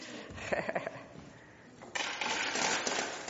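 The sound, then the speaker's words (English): Coins drop into a collection container: a few quick metallic clinks, a brief lull, then a louder, sustained rattling cascade of coins tumbling in. “And we'll get the money in. Is it okay to make a big noise?”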